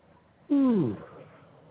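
A single cat meow, fairly loud, lasting about half a second with a pitch that slides downward at the end, followed by quiet room noise.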